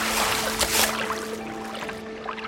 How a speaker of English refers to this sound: It's actually quite hard to get the board on the right side of it with the wind and a bit of the waves. Okay, and then I've got onto my knees to just lift it out because it's actually really full of water.